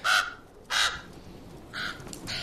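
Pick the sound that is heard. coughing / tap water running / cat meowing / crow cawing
crow cawing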